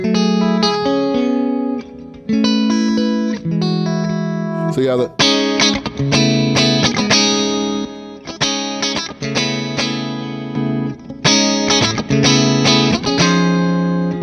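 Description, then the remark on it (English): A clean electric guitar played through a boost pedal into a Morgan, made louder but kept clean without breaking up, plays sustained chords and short picked phrases, bright and full, loud with a boosted edge; a voice briefly speaks at the start. “I use it just to get the Morgan to be like louder, because we'll have clean guitar”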